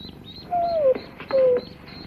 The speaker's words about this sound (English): Mom! Gramps! The duck's hatched out!